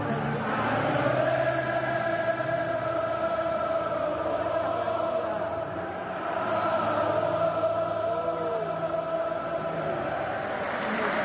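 A huge crowd of Liverpool football fans, filling the stadium to capacity, sings together in a sustained, swelling chant, thousands of voices blending into a loud, continuous wash of melody with no break for the whole stretch.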